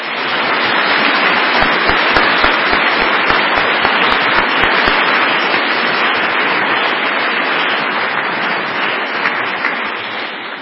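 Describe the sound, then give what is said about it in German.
An audience at a Sunday church service applauding steadily for about ten seconds, a dense, loud wash of clapping, with a brief stretch early on where some hands fall into an even, rhythmic beat. “Ja, und normalerweise klatschen wir da, ne?”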